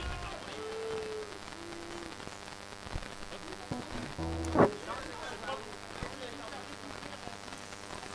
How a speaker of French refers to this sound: Bon, le bruit de la pluie, c'est pas moi qui ai décidé, c'est totalement... bon, c'est pur hasard.